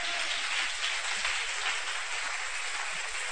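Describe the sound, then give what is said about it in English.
An audience claps steadily, a dense, continuous patter of many hands with no clear individual beats, holding an even loudness throughout with no voices on top. “Oh, you can clap those hands.”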